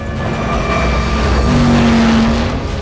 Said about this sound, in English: The speedboat cuts through the water as it circles above him.